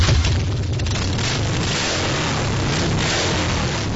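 Loud, deep motorcycle engines rumble and roar throughout, with throaty revving surges rising and falling over a constant low growl. No voices are heard.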